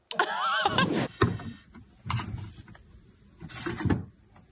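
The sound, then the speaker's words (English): Heavy scraping and creaking of outdoor chairs as a moose scratches itself against them in a Wyoming backyard, with squeaky tonal groans at the start and then several rough, irregular bursts of knocking and grinding. “Is there a reason you're tearing up my chairs?”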